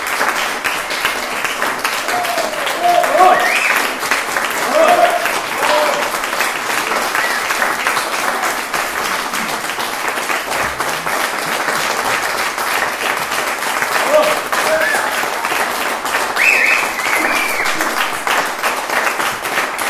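Sustained audience applause, a dense, steady wash of many hands clapping at a fairly loud, even level for the whole stretch, with a few faint voices mixed into the crowd noise.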